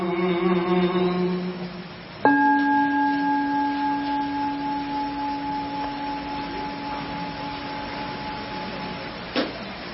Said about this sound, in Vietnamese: Xin tất cả quý vị bắt đầu thực tập. Lặng lặng nghe, lặng lặng nghe tiếng chuông huyền diệu đưa về những tâm.